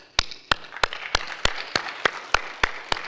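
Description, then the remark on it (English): Steady, rhythmic clapping from an audience, about ten sharp claps in unison at an even pace, with a soft wash of background noise between beats and no talking. “Hold your applause.”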